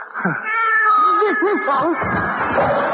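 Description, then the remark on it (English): A cat yowls in a long, wavering caterwaul, its pitch sliding up and down in repeated loud arcs before breaking into rougher, throaty cries. “I'll have that cat altered.”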